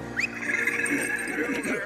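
A single horse neigh rings out loud, a high, wavering whinny that holds for nearly two seconds with no voices around it.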